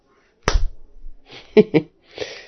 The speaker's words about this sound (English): please will you slap my worthless bitch face again? Aww. Of course I will.